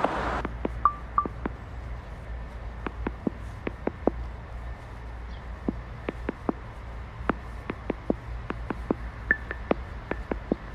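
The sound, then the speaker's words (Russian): Directional audio cues from the Voice Vista navigation app as the phone is rotated: a steady run of short, sharp electronic ticks at uneven intervals, with a few brief higher beeps, over a low background hum and no talking. “Я вращаю телефон и слушаю звуковую схему.”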